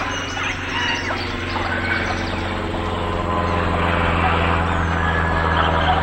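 A small private propeller plane drones steadily overhead in the sky, its engine a constant, buzzing hum with layered low tones, while faint bird chirps flicker in the background.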